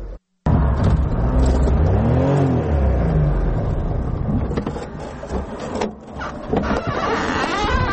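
A small Daewoo Tico car's engine drones steadily, rising and falling in pitch as it revs, with mechanical whirring and rattles throughout and no voices, as it drives on the roads of Tursunzoda, Tajikistan.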